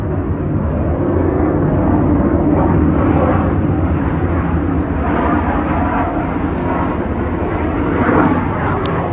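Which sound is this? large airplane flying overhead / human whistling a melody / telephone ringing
large airplane flying overhead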